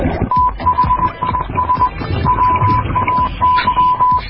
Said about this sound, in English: The Singing Sailor sends out a Morse code to any visitors nearby.